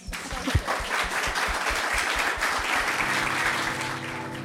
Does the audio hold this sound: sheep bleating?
no